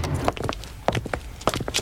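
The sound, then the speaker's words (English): A handful of footsteps walking away out a door at a steady, slightly uneven pace, each step a sharp knock on a hard floor, with no voices. “Now, go on, walk out that door.”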